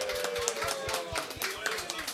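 An audience applauds, a dense patter of many hands clapping at once, steady and fairly loud for a couple of seconds, with a faint sustained tone and crowd murmur underneath.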